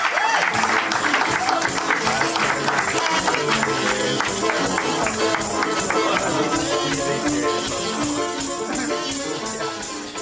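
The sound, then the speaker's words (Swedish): A crowd claps steadily and loudly over upbeat music playing throughout, recorded during a magic performance at The Magic Castle in Hollywood, the applause dense and continuous for the whole stretch before easing slightly toward the end. “musiken och applåderna som hördes i inslaget, de var förstås inte från Malin Nilssons trolleriverkstad i Malmö”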